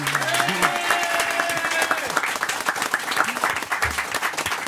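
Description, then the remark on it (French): Sustained studio audience applause welcoming Noémie Lenoir: dense and steady clapping from a large crowd, with faint musical tones underneath and no one speaking over it. “Applaudissements pour la magnifique Noémie Lenoir.”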